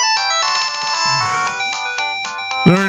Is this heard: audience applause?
no